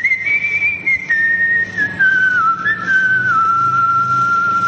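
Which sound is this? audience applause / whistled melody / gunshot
whistled melody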